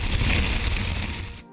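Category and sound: nature, fire crackling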